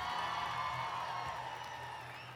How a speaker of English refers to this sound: Give a huge round of applause to all the organizers and all of you.